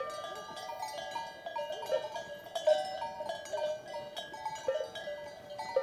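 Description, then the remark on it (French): Many bells on a flock of ewes clank and jingle continuously close by in the mountains, an irregular metallic chorus with occasional sharper clangs, as the ewes graze and step about on the ground. No voices. “On entend aussi les brebis qui broutent et aussi le pas des brebis sur le sol.”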